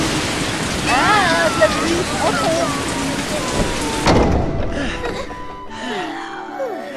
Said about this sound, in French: Ah, la pluie, trop fort.